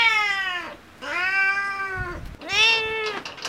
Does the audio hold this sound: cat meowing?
yes